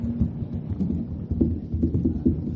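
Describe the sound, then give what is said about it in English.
A church audience creates a thunderstorm-like roar, with dense, steady rumbling and pattering like heavy rain and thunder, plus scattered thumps, loud and continuous throughout with no talking. “Listen to the storm.”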